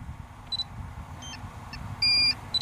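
signal or alarm, drone beeping

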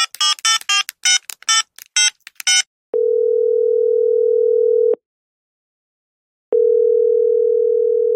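signal or alarm, telephone ringing tone

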